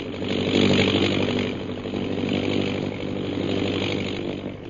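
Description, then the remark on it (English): A propeller plane circling over a hill drones steadily with a low buzzing hum and gritty rasp, swelling slightly louder at first then holding even, with no voices over it. “We join them now as their plane circles over the hill.”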